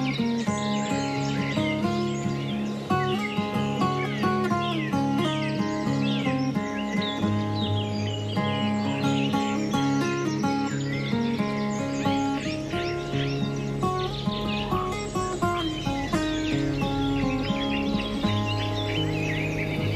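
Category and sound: bird, cuckoo calling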